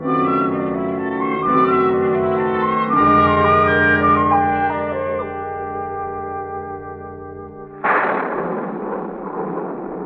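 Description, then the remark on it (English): Sustained, echoing music chords play for several seconds, then a sudden loud rumble of storm thunder breaks in and rolls on, washing out the music. “It does look like a storm.”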